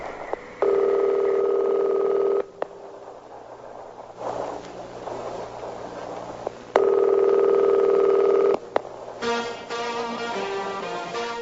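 Two long, steady ringback tones of an accidentally butt-dialed outgoing phone call to the caller's daughter sound over a faint line hiss, separated by a quiet gap. Then the line abruptly connects and tinny music starts playing.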